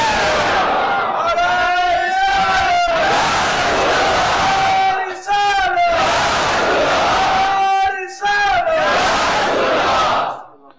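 A large crowd loudly chants the religious slogan "Ya Rasool Allah" in unison, repeating the same rising call several times in a steady rhythm, with only brief breaks between bursts.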